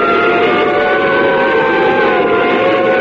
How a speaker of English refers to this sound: But this member wasn't as encouraging as the rest. He followed us with his siren blaring. It was an ambulance.